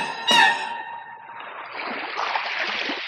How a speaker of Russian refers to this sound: Ну, позвольте, я слышу, волны гудят. Неужели море? Неужели море?